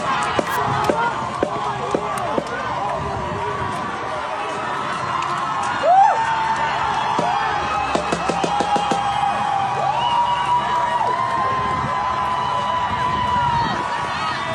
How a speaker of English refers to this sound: Imagine cheering for yourself as you're doing something like that.